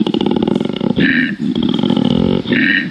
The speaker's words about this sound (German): Und normalerweise macht er so relativ hoch. Aber wenn er Bock hat, wenn er will, dann klingt das beim Koala-Bär so.